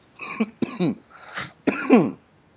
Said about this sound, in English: We sound great. I know. I got a sniffles and you got the coughs.